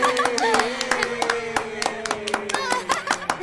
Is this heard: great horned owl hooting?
no